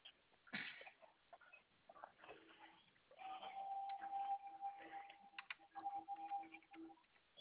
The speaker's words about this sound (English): Let me type this in. Old Mount Zion Baptist Church.